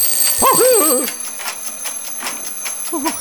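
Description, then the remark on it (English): An alarm clock rings in a rapid, steady stream of electronic pulses that runs the whole time, with a voice briefly cutting in over it near the start and again at the end. “Sorry, I forgot to turn my alarm off today.”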